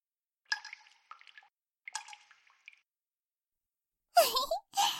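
A sound effect of candle wax dripping: several soft drips land at uneven intervals, followed by two louder, broader splashy bursts near the end.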